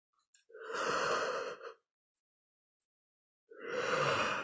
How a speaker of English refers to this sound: And when I yawn, it's energetic release, not fatigue.